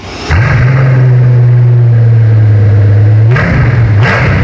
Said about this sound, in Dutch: Ja, weet jij welke auto er zojuist is gestart hier in de showroom bij Autovilla? Ja, het is wel een ster, deze auto. Dat kan ik wel als tipje meegeven.